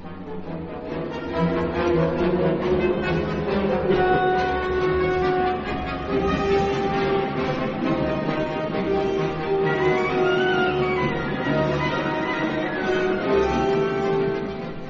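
Loud, dense orchestral music imitates a steam locomotive, with churning strings, insistent pulsing rhythm and brassy whistle-like swells. It plays continuously with no talking.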